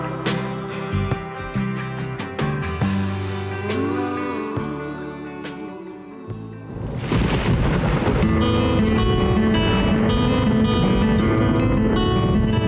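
Thunder starts rolling midway through and swells into a loud, sustained stormy rumble with a rain-like hiss, layered over tonal music that plays throughout.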